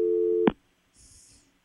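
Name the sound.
telephone dial tone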